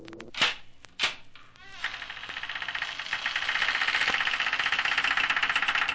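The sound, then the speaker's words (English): Two sharp knocks or latch clicks, then a long, drawn-out creak of a door that needs a little oil slowly opening, a raspy, rapidly pulsing groan that swells louder and holds steady. No voices. “I'll try the door.”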